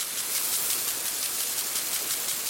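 Water sprinklers in America spray with a steady, bright hiss, rising and falling in faint rhythmic pulses as the jets sweep. No voices, just the continuous wash of spray.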